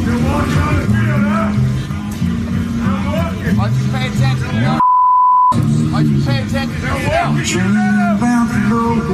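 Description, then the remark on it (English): A single steady, mid-pitched censor bleep lasting under a second drops into loud, heated voices of Tom Brady and Titans head coach Mike Vrabel arguing on the practice field during joint Titans–Patriots practices. The bleep covers bad language, silencing the voices completely while it sounds before the animated talking resumes. “I heard the beat, so I assume Vrabel, there was bad language so involved.”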